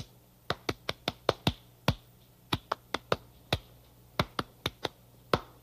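Sharp hand claps, about seventeen, come in quick uneven bursts with short pauses between groups. Each clap is a crisp, fairly loud smack, and no one talks.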